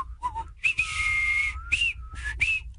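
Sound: person whistling a tune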